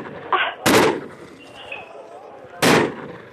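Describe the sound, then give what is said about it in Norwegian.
Two loud, sharp gunshots fired at a dog ring out about two seconds apart, each a sudden cracking bang that fades quickly, with only faint background murmur between them. “Ta så skyt den hunden! Skyt den hunden nå!”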